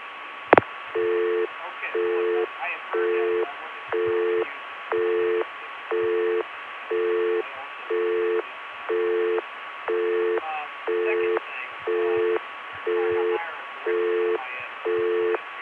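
A Bell System crossbar PBX busy signal on a phone line beeps on and off in a steady rhythm, about once per second, over a faint hiss with low, indistinct chatter of people talking in a room underneath.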